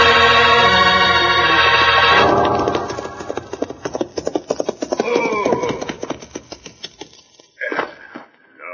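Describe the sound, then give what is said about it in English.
Horses ridden by Cisco and Pancho gallop back toward Senor Joe's store, their hooves clip-clopping in a fast, steady rhythm, following a brief opening of sustained, musical tones. “We'll get our horses and ride back to Senor Joe's store.”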